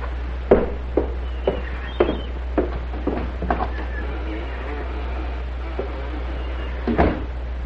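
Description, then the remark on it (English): A front door being handled and opened: a series of sharp wooden clunks and knocks at an uneven pace, then a final rattling thud, over a steady low hum. “Go to the front door.”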